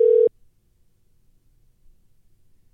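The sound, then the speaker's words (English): A brief, loud telephone ringing tone as a call is placed for the Jake and Drew show and goes to voicemail, a single steady electronic burst lasting a fraction of a second, cut off abruptly and followed by near silence with faint low background noise. “I think we're going to get a voicemail. Let me call him.”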